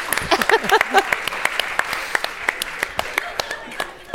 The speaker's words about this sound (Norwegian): Det fortjener en applaus.